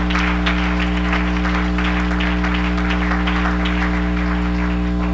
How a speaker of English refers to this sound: The men ought to clap your hands.